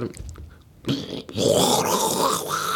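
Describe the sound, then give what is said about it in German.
A toilet flushes, starting with a short burst of noise and then swelling into a loud, steady rush of water that keeps roaring to the end, with a low gurgling rumble underneath. “Hört sich denn das auf jeden Fall eine kaputte Toilette, Digga?”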